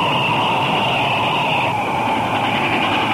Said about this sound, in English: Looks like a train headed for Valley Ho. Well, hello, train, and goodbye!